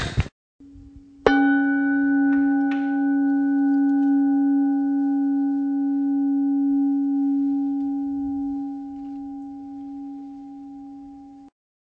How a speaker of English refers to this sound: It's almost like a siren, as you know, these bowls, and it just fills the room without being a crashing sound. And I like that because it has a real presence to it without having a violence of its own the way a gong might, you know.